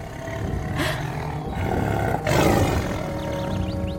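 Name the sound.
tiger roaring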